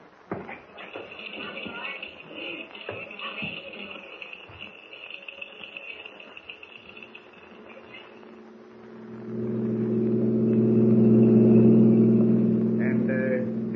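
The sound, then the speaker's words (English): Shuffling footsteps and bumps, then a car engine starts up and revs loudly, its steady droning hum swelling as the car pulls away. “We'll take my car.”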